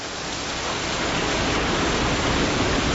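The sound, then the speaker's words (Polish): Steady, dense hiss of heavy rain pouring onto a large lake, a continuous wash of fine splashes with no distinct drops standing out, fairly loud throughout. “Padanie na dużą wodę, na duży zbiornik wodny.”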